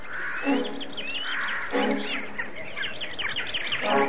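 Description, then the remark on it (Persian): A flock of birds chirps rapidly and continuously as they fly around an old woman's head, with recurring rustling bursts like fluttering wings rising every second or so. The sound is fairly loud, with no voices. “ناگهان پرنده ها دور سر پیرزن شروع به پرواز کردن، سعی کردن پیرزن رو به عقب برانند”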